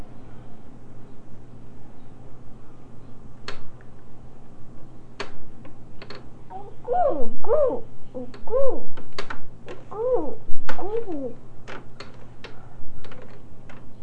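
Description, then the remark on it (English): A child's voice makes about five short, rising-and-falling bird-like calls in quick succession, imitating birdsong, over a steady background of sharp ticking clicks. “What are you saying, the bird sound that those birds are making?”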